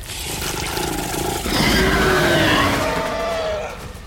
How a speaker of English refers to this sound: Suddenly, the creature began to writhe, convulsing madly, its painful howls filling the woods.